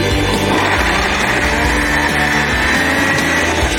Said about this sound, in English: And that's all blended up. We're going to pour it into a bowl.